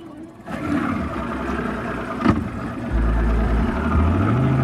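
A large boat passes, making waves; its engine rumbles in a deep, steady drone that grows louder partway through, its low tone climbing in pitch, with a brief knock in the middle.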